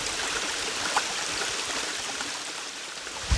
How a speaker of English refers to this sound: This is a little creek that runs right through Dolly's childhood home.